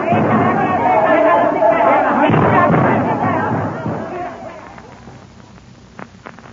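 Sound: machine gun fire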